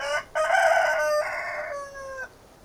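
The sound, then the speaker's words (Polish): An old rooster sitting on a post beside a gate crows once unhappily, loud, a long strained cock-a-doodle-doo with a brief hitch at the start and a drawn-out, wavering finish, heard alone with no voices, in a story about animals going to Bremen. “Niedługo potem na słupie obok bramy siedział stary kogut Gustl Hanneman i piał nieszczęśliwy.”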